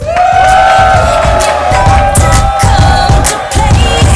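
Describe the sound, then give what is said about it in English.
A crowd on its feet applauds and cheers loudly and steadily for about four seconds, with sustained high whoops and yells riding over a dense wash of clapping. “All right, everybody applause.”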